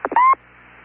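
Two quick static-like chirps lead into a short, steady electronic beep tone from a radio link during a communications check with Houston, loud, then fading to a faint background hiss.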